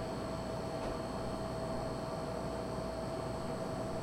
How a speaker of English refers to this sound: A fast plane is coming. The Atungaskak Piraskak Dayok. The fast plane is coming.